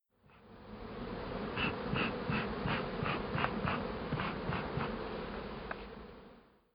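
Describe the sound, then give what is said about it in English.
A dense, steady drone of a honeybee swarm taking flight with a new queen fills the air, many bees buzzing together in a thick, continuous hum that swells and holds without a break, with no voices. “She's seen the flight of new queens before, but it's completely different when it's a swarm.”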